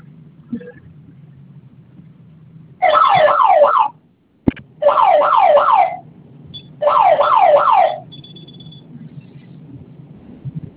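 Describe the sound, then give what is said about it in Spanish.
A security alarm panel, set off as a test by holding its two flame-symbol buttons for a few seconds, sounds in three loud bursts of rapidly warbling electronic tone, each lasting over a second with brief pauses between, over a low background hum. “Va a mantener presionado por unos segundos el botón de los dos botones con la figura de una flama hasta que suene la alarma, y en cuanto suene la alarma va a ingresar su clave, ¿sí?”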